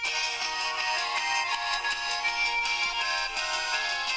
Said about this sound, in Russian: Он точно абсолютный рок. Вот здесь сверху звучит еще, да, гармонь.